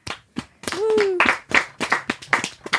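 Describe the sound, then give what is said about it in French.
Hands clap in a loose, irregular rhythm, about a dozen sharp claps, while a voice briefly lets out a drawn-out sliding cheer partway through. “S'applaudit.”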